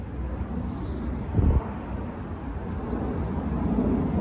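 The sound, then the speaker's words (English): An airplane drones overhead, hidden above a cloudy sky, as a steady, broad low rumble that holds throughout, with one brief louder gust-like swell partway through and no voices. “Oh, that's definitely a plane.”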